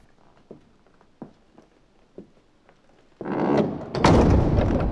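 A few soft, scattered footstep-like thuds, then a door slams shut loudly on its own, followed by a sustained rattling, booming clatter that runs to the end.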